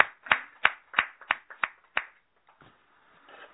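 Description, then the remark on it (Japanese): Brief applause celebrating birthdays at a March 1 morning worship gathering: about seven crisp, sharp claps in a steady, fairly quick rhythm, then they stop, leaving a soft murmur of background noise. “盛大な拍手でお祝いを。”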